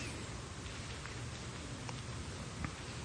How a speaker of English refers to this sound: Here comes the rain.